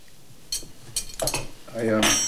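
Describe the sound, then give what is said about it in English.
Dining table sounds in a dining room as people sip red wine and unfurl their napkins: a few sharp clinks and clatters of cutlery and dishes at irregular moments, followed by a fuller, sustained rustle and clatter toward the end. “They sip their red wine, then unfurl their napkins.”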